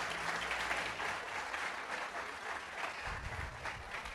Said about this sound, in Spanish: Hola, mire, regálenle una ofrenda de palmas al Señor, muy tensos están, hombre.